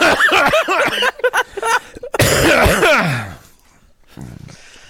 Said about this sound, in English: I have to cough.